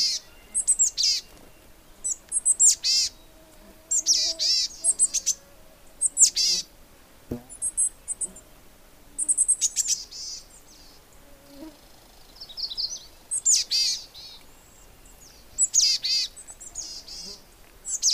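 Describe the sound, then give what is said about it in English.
Small songbirds call repeatedly in quick bursts of high, thin chirps and trills, fairly close and clear, with short pauses between phrases and no talking. “I can't tell you how thrilled I am to see these little birds and have them make their little sounds.”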